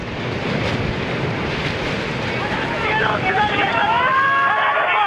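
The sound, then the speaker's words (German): A massive surge of tsunami water, with waves up to 18 meters high in places, strikes the Pacific coast with full force, roaring and churning steadily and loudly, its rumbling wash filling the scene while faint, wavering cries and shouts rise in the background toward the end. “Mit voller Wucht treffen die Wellen aufs Land.”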